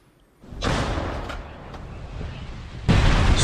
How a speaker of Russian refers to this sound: Конкретно на том участке, где побывали мои коллеги, работает на вооруженные силы Украины трофейная российская гаубица.